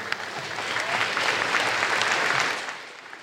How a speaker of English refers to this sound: Let's give everyone a round of applause.